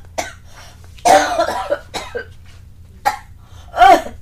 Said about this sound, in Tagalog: Ma'am, bakit may dugo yung ubo ninyo?